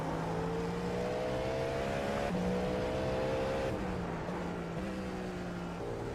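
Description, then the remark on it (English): Several IMSA prototype race car engines whine at high pitch, holding steady revs with brief shifts and drops in pitch, a continuous loud drone of cars running together in a train with no voices. “Looks like you got like a train of them behind you.”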